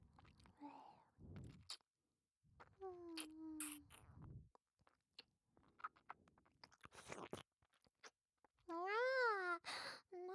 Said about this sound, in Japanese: もう我慢できないにゃ。大好きなご主人様のお顔をいっぱいいっぱいペロペロなめなめしていいにゃ。